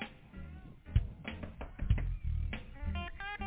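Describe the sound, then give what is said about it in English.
A few sharp, hollow knocks on a door, spaced about a second apart, sounding over a busy background of tonal, music-like sound. “tell her, find out who that is knocking on the door.”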